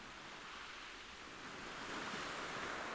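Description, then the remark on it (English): Waves break on a shore a few yards away in a steady, hissing wash of surf that swells louder partway through, with no voices present. “This was precision stuff, from experienced hauliers to the roar of a thunderous engine and the crunching of a gigantic gearbox, drowning out the sound of the waves breaking just a few yards away.”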